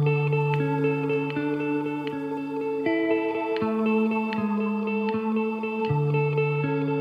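The instrumental intro of a singer-songwriter's new song plays at steady volume, with sustained chords changing every second or so, light rhythmic accents and a washed, echoing effect. No singing or talking yet.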